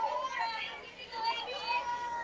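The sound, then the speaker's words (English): A steady, busy jumble of many overlapping voices from the crowd at a softball game, behind the commentators, with high chattering and calls rising and falling continuously. No single voice stands out. “You can hear the commotion. Yes, you can. Behind us.”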